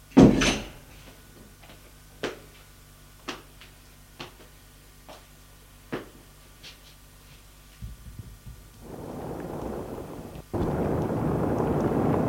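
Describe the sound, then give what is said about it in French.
A servant shuts a door with a loud thud, followed by several sharp, evenly spaced clicks over a low steady hum, then a rising rush of noise at the end. No one speaks. “Il ferme la porte.”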